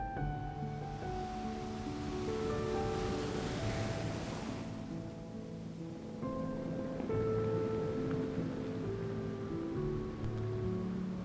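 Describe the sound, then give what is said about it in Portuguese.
Calm sea waves wash steadily onto a beach, swelling into a broad hiss and easing off midway before rolling in again, with soft sustained musical tones layered underneath. No one speaks. “O mar tá tranquilo hoje.”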